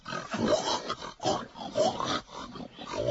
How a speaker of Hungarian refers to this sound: A társak az olban keservesen röfögnek.